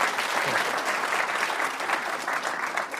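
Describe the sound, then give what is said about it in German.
An audience claps steadily for a few seconds after a person bows on stage in a demonstration of a nativity play, a dense, even patter of many hands with no voices over it, holding a fairly constant loudness throughout. “Und dann wird sich die Person verbeugen und ihr würdet applaudieren. Applaus.”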